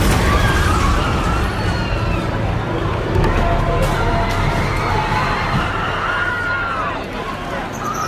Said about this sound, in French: James Alex Fields, un néo-nazi de 20 ans, percute la foule, puis s'enfuit, laissant derrière lui des dizaines de personnes gravement blessées et le corps d'une femme sans vie.